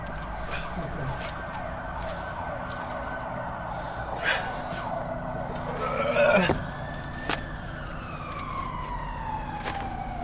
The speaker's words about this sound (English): There's a police car.